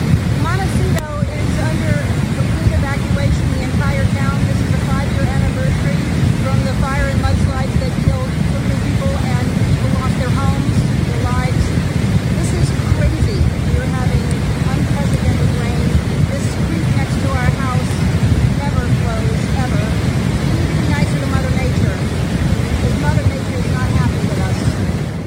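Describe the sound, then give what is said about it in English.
A loud, steady roar of rushing water in Montecito, California runs unbroken throughout, with a woman's voice talking over the constant wash of noise. “You can actually hear the rushing water behind her.”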